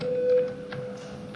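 A parliamentary voting bell in the Latvian Saeima, rung before a vote on an amendment, sounds as a steady, mid-pitched electronic tone that is loud for about half a second, then lingers faintly beneath a few soft clicks.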